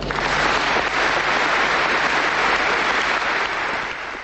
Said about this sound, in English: His speech opened to massive applause from the audience.